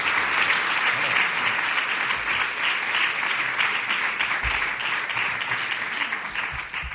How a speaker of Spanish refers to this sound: Si quieren ustedes aplaudir al presidente de su diputación, pues están...